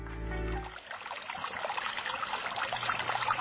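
Water flowing steadily like a babbling stream, a continuous rushing trickle that follows a brief low rumbling tone at the very start, with no voices.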